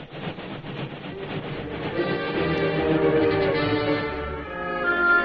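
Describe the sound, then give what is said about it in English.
A Union Pacific train rolls steadily along the rails, a continuous rumbling clatter with a faint metallic ringing tone, growing slightly louder toward the end. “Look at that train. Those rails to the horizon and beyond.”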